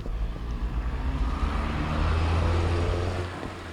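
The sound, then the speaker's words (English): A car passing by outdoors, its steady low engine rumble and road noise filling the scene, fairly loud, swelling slightly toward the end, with no one talking. “Let this car pass.”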